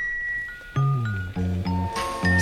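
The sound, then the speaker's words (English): Bright, bell-like xylophone tones chime through a song, a handful of ringing notes struck in a gentle, steady rhythm over warm, sustained low chords, with no voices. “because it's got that kind of bell, like xylophone kind of vibe.”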